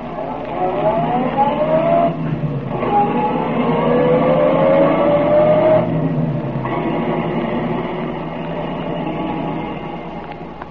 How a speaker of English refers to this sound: We know, but Tracy does not, that Remo lies concealed in the back of Tracy's car while the detective drives to Tess Trueheart's home.